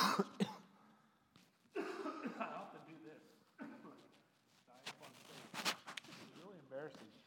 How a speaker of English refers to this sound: Thank you. That'll give me a second to get the cough off.